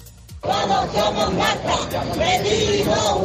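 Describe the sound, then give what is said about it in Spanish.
Neighbours of Marta shout together in support of her family at the doors of the courthouse in Seville, a loud, continuous mass of overlapping voices that bursts in after a brief quiet moment and stays steady, with some chanting-like swells. “Con estos gritos apoyan los vecinos de Marta a la familia aquí a las puertas del juzgado en Sevilla.”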